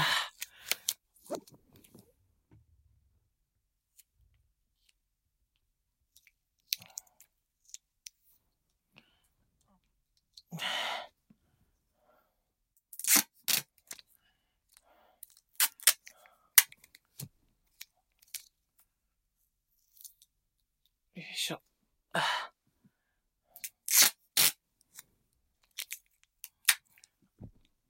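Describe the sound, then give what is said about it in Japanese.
Adhesive tape being peeled and torn in several short raspy bursts spaced irregularly with quiet gaps between them and small clicks and rustles in the pauses. “ちょっと手がぬるぬるしてて。テープがうまく剥がせない。”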